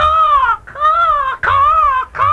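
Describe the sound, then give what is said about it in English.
A person up in a tree imitates bird calls: four loud, wavering, squawk-like cries in quick succession, each about half a second long, with no other sounds. “Never mind making bird talk at me.”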